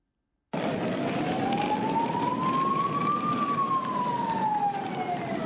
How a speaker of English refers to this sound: The wailing of sirens were all that could be heard on the streets of Brussels this morning.